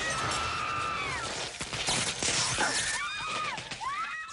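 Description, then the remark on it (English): A large neon diner sign topples from the top of a signpost and crashes down onto a car in a loud smash of crunching metal and shattering, with a shower of sparks, framed by high, wavering squeals before and after the impact. “ducks as it crashes down, crushing his dad's car in a shower of blazing sparks.”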